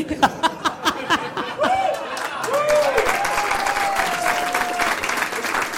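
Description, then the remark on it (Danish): An audience of people with arthritis applauds, starting with a few sharp separate claps that quickly swell into steady, sustained clapping, with a whistle-like tone and some crowd murmur and laughter mixed in. “Det der bifald tæller dobbelt, fordi det er folk med gigt, der klapper lige nu.”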